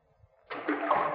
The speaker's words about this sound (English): You see this rock? I'm going to drop it down. Now, you'll have to listen hard to hear the splash. Ready? There she goes.